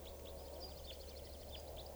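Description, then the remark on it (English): A juvenile type 4 crossbill, just out of a net, gives repeated short, high calls with a sawing, buzzy quality, several per second, over a steady low background hum. The bird is not loud. “Recording now, it sounds like a bird is crossbill sawing here. I think it's a type 4 juvenile.”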